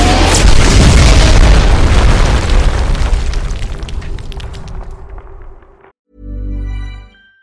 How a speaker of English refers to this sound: Well, yeah, there's a massive explosion.